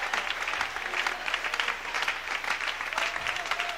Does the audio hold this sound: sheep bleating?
no